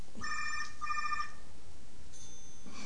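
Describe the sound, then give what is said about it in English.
A cell phone rings with two short bursts of a bright, trilling electronic tone, clear against a quiet background hum, followed by a faint high tone. “Oh yeah, cell phones. Anyone has a cell phone? Could you please turn it off?”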